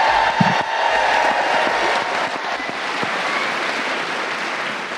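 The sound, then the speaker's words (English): A live audience in Chicago cheers and applauds in a steady, dense wash of clapping and crowd noise without letup, with no voices speaking over it. “I didn't even say anything and you're cheering.”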